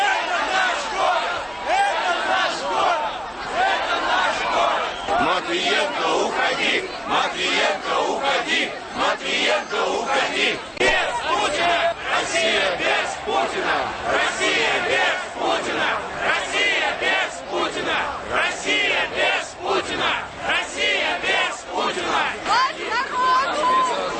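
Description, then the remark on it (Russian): A large crowd on a protest march along Nevsky Prospekt chants and shouts continuously, including "Vybory!" ("Elections!"), a loud, dense roar of many voices with repeated rhythmic bursts running steadily throughout. “Люди прибывали, их было уже не остановить.”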